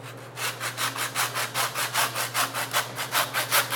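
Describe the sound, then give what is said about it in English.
A hand saw cuts through the vertebra bone of a blade roast from the shoulder with quick, steady back-and-forth strokes, about four per second, rasping, over a low constant hum in the background. “So I'm sawing through the vertebra here.”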